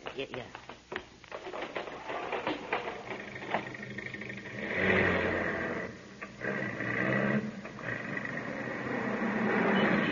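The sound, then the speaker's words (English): A truck engine rumbles in around the midpoint and keeps growing louder and steadier as it draws closer, following a stretch of scattered, indistinct sounds at the start. “you see who's driving that truck?”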